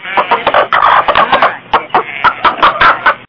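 The speaker's two pet chickens, sisters named Esther and Eunice, cluck in a busy run of short, throaty calls, first tumbling together rapidly, then breaking into separate staccato clucks spaced about a beat apart, fairly loud and with no talking over them.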